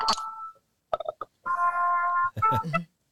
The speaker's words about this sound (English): Excuse me, I'm just turning off my phone.